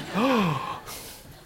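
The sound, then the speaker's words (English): A church audience lets out a brief collective gasp at the announcement of a sermon on one Bible book every Sunday, a voiced rising-then-falling "ooh" lasting about half a second, followed by a quiet murmur. “I hear those gasps.”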